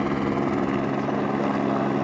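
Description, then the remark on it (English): A helicopter hovers at about 100 feet over a snowpack while its crew positions a suspended oxygen-hydrogen blasting device; its engine and rotor make a loud, steady drone with a low thrumming pulse that holds constant throughout, with no voices. “The helicopter crew opens a valve, blending the gases.”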